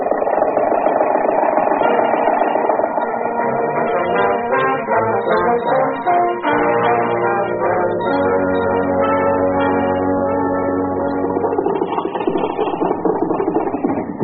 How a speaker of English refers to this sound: Confound your stinking motor car! Useful vehicle if you have to slow down almost to a standstill every time you see a horse.